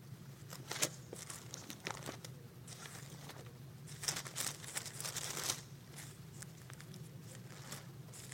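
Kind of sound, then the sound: household object, bible pages being turned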